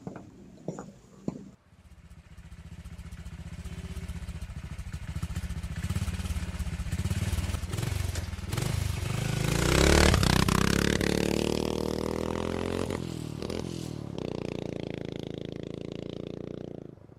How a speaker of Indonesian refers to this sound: Lalu, mereka menaiki mobil dan pergi. Ya, pergi begitu saja.